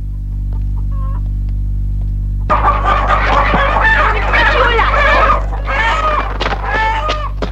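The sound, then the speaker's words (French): A flock of hens being fed breaks into busy, overlapping clucking and squawks after a quiet start, fairly loud, with a steady low hum running underneath. “Après la soupe, elle va donner à manger aux poules.”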